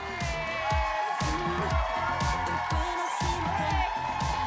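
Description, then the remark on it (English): A large audience cheers and whoops loudly and continuously, with piercing whistles cutting through a dense wall of crowd noise that stays at full volume throughout, as comedian Lisa Traeger takes the stage for her Netflix special Night Owl. “You were really loud and then, wow. Quick silence.”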